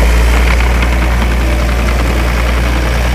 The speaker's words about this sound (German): Für den Bagger ist es nur ein Aufheulen und eine kleine Schaufelbewegung. Dann strömt die Rodenberger Aue unter dem Beifall vieler Gäste in ihr neues, altes Bett.